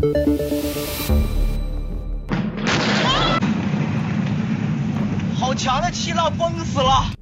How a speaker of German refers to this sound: Im Netz kursieren etliche Videos von den gewaltigen Explosionen in der chinesischen Hafenstadt Tianjin. Sie beschreiben den riesigen Feuerball über der Millionenstadt. Die Erschütterung war so stark, dass viele an ein Erdbeben dachten.